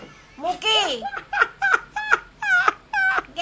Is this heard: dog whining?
yes